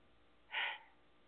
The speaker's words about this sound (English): Breathing in through the nose and out through the mouth.